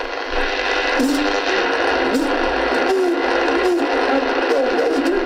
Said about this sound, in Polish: Radio zadziałało, ono jest całkowicie sprawne, mimo że ma swoje lata. I chodziło przede wszystkim o to, żeby zademonstrować jego sprawność bojową.